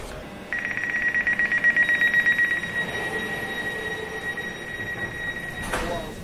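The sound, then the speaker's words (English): An Elizabeth line train in London pulls into platform A, with a loud, sustained high-pitched squeal of wheels and brakes over a heavy rumbling rhythm that gradually eases, ending with a brief clunk; the train calls at all stations to Abbey Wood. “Train approaching platform A to your Elizabeth line service.”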